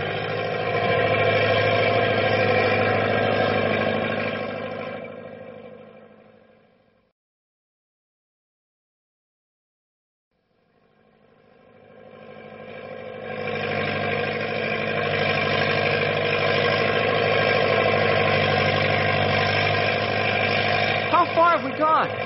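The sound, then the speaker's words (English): The heavy truck Big Brute drones steadily in low gear over rough going through drifts, a thick rumbling hum that fades out to a few seconds of silence, then swells back in and runs loud again. “Nothing to worry about, pal. I still have two lower gears to shift into.”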